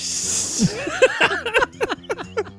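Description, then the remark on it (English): A person blows air through their teeth in a short, breathy hiss that imitates a snake, and then voices follow with quick, choppy talk or laughter. “Not a machine gun, that's a snake.”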